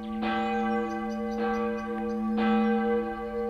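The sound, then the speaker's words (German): A large medieval church bell named Maria, cast and consecrated in 1356 and bearing a Latin inscription, tolls three times at a steady pace. Each strike rings out with a rich, sustained hum that overlaps the next, loud with no voices. “Diese Glocke wurde Maria genannt, zu Ehren von deren Verkündigung und Allerheiligen, gegossen und geweiht im Jahr des Herrn 1356.”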